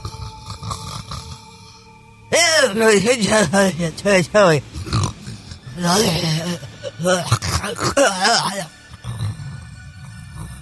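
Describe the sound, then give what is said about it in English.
A person imitates snoring with their voice, making a run of loud, rough, rattling snorts and throaty groans in irregular bursts, with a short pause in the middle before more exaggerated snores. “So, we'll start with the snoring.”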